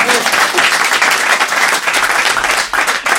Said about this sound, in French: Bravo, ça s'applaudit, bravo.